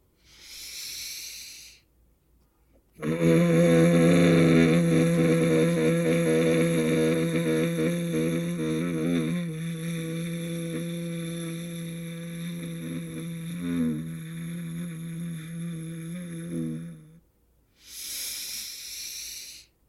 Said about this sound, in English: I'm going to breathe in deeply, and then I'm going to exhale slowly with the buzzing sound. It's very, very slow. I'm going to do this 3 times, then I'm going to come back to you.